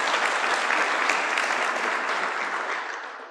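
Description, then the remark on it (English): A crowd gives a round of applause for the workers, clapping steadily in a dense, sustained burst that begins loud and gradually fades slightly toward the end, with no voices. “Can you give a round of applause to all the workers?”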